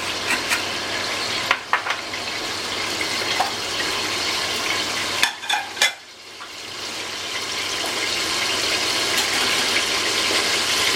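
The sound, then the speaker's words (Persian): Melted liquid is poured over rice in a hot cooking pot used to make potato tahdig, setting off a steady sizzling hiss with a few brief clinks and splashes along the way; no one speaks. “این کوچولو از اپلین که آب کردیم برای روی برنج داخل این من برای تدیگ از سیب زمینی استفاده میکنم.”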